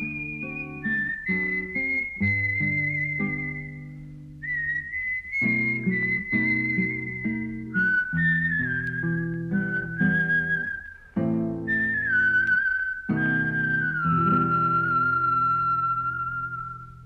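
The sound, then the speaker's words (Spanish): A man whistles a slow, gliding tune, clear, with long held notes over soft instrumental chords that change every couple of seconds. “Y mientras caminaba hacia el mío, oía al tío Juan. Estaba silbando.”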